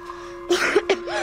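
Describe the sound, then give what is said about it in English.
A man coughs a few times in quick, muffled bursts into a tissue, with a steady faint hum underneath and no talking. “He coughs into a tissue, leans on a table, then collapses.”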